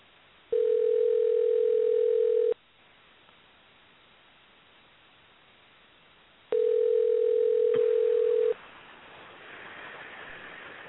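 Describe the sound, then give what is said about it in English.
A phone ringback tone heard over a call line while phoning the bait shop shack at Sandbridge fishing pier in Virginia: two long, steady ring bursts of about two seconds each, separated by a few seconds of hissy line noise, with no one talking. “We'll see if anyone's home in the shack to answer the phone.”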